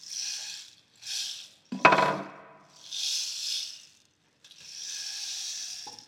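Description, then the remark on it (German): At night, rain patters against castle windows while wind rushes around the castle walls in several swelling, hissing gusts, with one sharp, resonant clatter early on. No voices. “Der Regen prasselt an die Schlossfenster und der Wind fegt um die Schlossmauern.”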